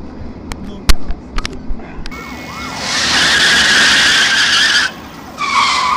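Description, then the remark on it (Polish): Car tires squeal loudly in a long, high-pitched screech of about two seconds, then a shorter second burst after a brief pause, following a few scattered sharp knocks. “Ale gumę, idiota, baran, jeden się rozjeździ, chodź.”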